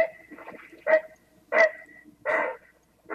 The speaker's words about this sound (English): let's start with the voice of the great blue heron